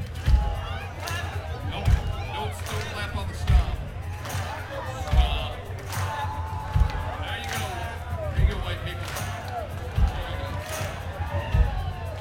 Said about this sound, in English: If you guys could stomp along. Stomp. Come on, put some balls into it. Ladies, put your boyfriend's balls into it. And then a little clap. Stomp. Then a clap.